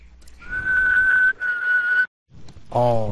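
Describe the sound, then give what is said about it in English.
A person whistles a steady, high-pitched tone imitating an emergency broadcast alert, held for about two seconds with one brief break, then a short vocal sound follows. “Doesn't one of the alarm programs actually have the emergency broadcast yes, system tones in it?”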